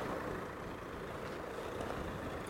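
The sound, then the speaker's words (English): A steady, low rumble of engine and road noise fills the inside of a moving bus, droning evenly throughout without pauses, voices or distinct events. “One bonus, too, to the extra long bus ride, since I'm, you know, stuck on the bus.”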